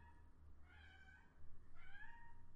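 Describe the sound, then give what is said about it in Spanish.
A domestic female cat meows twice in quick succession, each call a drawn-out, rising-and-falling cry, over a low background rumble; the cat wants someone to play with her. “Esa es mi gata que quiere que juegue con ella y cuando quiere que juegue con ella siempre maulla así.”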